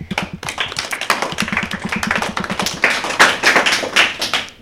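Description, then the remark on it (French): A class of CM pupils, guests on the Bubble Radio game Bubble Game, applaud together, with many quick overlapping claps forming a dense, steady patter that lasts several seconds, fairly loud, with no talking. “On peut les applaudir.”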